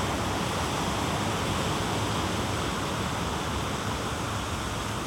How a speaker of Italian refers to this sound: Ora semplicemente ascolta il suono prodotto dall'acqua sulla spiaggia e percepisci nel colore.